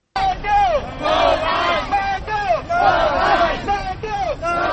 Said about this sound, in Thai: พวกประท้วงส่งเสียงห้องโหให้ประธานาธิบดีมาลาออกจากหน้าที่ในขณะที่เขาเจ้าเดินขบวนผ่านใจกลางนครหลวงไทเปบางคนพากันตีกองและแกว้งมีดสำหรับประกอบพิธีเพื่อเป็นการระบายความโมโหของเขาเจ้า